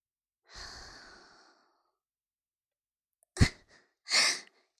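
A long, airy exhale close to the microphone whooshes softly and fades out, followed after a pause by a sharp puff and another strong breathy gust; no one speaks.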